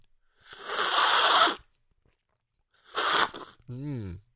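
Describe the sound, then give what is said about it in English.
Two loud, airy slurping sips of tea, a long one followed by a shorter one after a pause, then a brief voiced murmur with a wavering pitch. “I'm going to sip it, slurp it really loudly because that's how you aerate the tea and then you actually get more flavor that way.”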